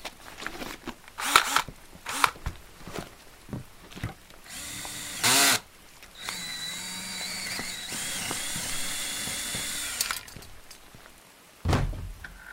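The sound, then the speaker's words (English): A power drill whines steadily for several seconds as it bores through the lock of a green house across the street, its pitch wavering under load, with scattered clicks and knocks before it and a heavy thunk near the end. “Give me a sec. I still need to drill the lock.”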